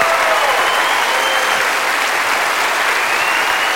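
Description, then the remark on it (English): An audience at a bilingual Spanish-English church service applauds the Lord as a 'clap offering', a dense, steady wash of clapping that stays loud and even from start to finish, with no voices standing out. “Just give him your best clap offering in this house.”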